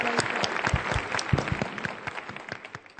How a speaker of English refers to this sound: Ladies and gentlemen, please give a warm round of applause to welcome the Honorable Governor of the State of Veracruz.